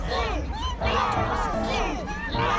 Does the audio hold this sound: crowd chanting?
yes